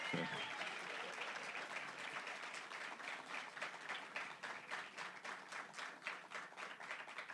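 An audience breaks into sustained applause as a guest is invited onto the stage, a dense wash of many hands clapping that holds steady for several seconds, with individual claps becoming more distinct and rhythmic toward the end.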